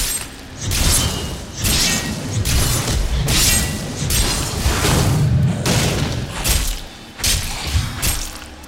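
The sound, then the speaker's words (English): A video game enemy explodes as the player kills it, in a loud run of booming, crackling bursts, roughly one every second, each with a sharp shattering top over a deep rumbling low end. No one speaks. “Wow, the guy exploded in when I killed him in a huge pile of red explodingness.”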